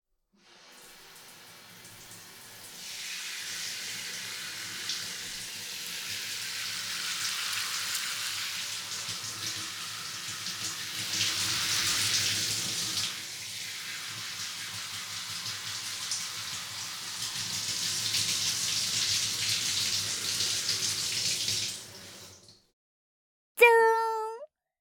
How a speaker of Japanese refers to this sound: シャワー失礼させていただきます。